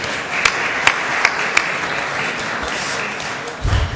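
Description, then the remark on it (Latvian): Sustained applause from the deputies fills the Saeima plenary session hall, a dense steady patter of many hands with a few sharper claps standing out, lasting throughout, thanking colleague Ainārs Latkovskis, who is serving as acting minister. “Un ar aplausiem mēs varētu pateikties mūsu kolēģim Ainaram Latkovskim, kas pašreiz pilda ministru pienākumus.”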